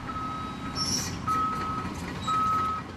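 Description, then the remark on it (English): Heavy construction machinery rumbles steadily at a roadside worksite at the corner of Lake Street and Sawmill Creek Road, where water and sewer lines are being replaced and the road rebuilt, while a high backup alarm beeps in repeated bursts over the low engine drone, with no voices. “I'm at the corner of Lake Street and Sawmill Creek Road, where construction, scheduled to end in September, continues to redirect traffic and fill the air with the sound of machines.”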